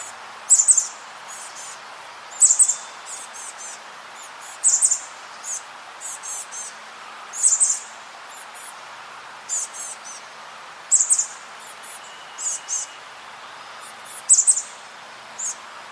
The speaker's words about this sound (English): And so just for reference, I'll go ahead and play chestnut-backed chickadee calls here.